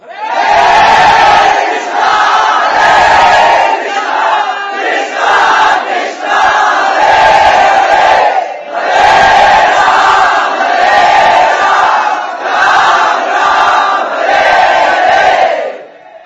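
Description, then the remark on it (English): A large crowd chants the holy name of Krishna loudly in unison, voices surging in repeated rhythmic phrases with brief dips between them, sustained and forceful throughout. “So they chanted even louder.”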